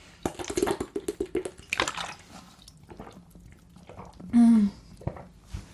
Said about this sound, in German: ich muss mal einen Schluck trinken, ich habe so einen trockenen Mund gerade, Gott, oh Gott.